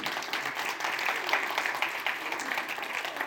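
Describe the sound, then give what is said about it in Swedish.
An audience gives another round of applause for a group of children, a dense, continuous patter of many hands clapping at fairly even loudness throughout, with no pauses or talking over it. “Ska vi ge dem en applåd till?”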